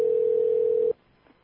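A single steady electronic phone ringing tone sounds for about a second, clear and even, then cuts off abruptly into near silence.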